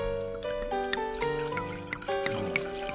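Liquid pours steadily into a glass, filled to the brim before a toast, a gurgling stream whose ringing tone climbs as the glass fills, lasting the whole moment with no one talking.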